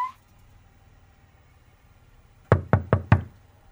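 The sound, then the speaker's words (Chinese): Four quick, firm knocks on the door of Mayor Liu's office at city hall, in a steady rhythm and clear, after a couple of seconds of quiet room tone. “林燕敲门进入刘市长的办公室时”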